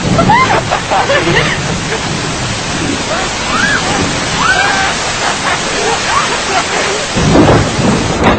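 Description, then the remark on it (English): A steady, loud downpour of rain in England hisses throughout, with low rumbling like thunder beneath it and faint voices briefly audible through the noise. “Pouring rain in England!”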